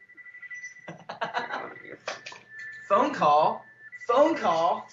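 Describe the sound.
A phone rings with a melodic, voice-like ringtone in two bursts over a faint steady tone, following a few seconds of brief talking.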